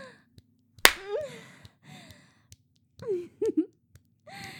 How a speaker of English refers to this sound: He doesn't like it when guys slap my ass. He thinks it's degrading. Daddy, he's gonna see the marks.